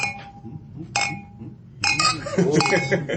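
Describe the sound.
Glasses clink together in a toast, three bright ringing chimes about a second apart that linger briefly, the last one fuller and busier, over a murmur of voices.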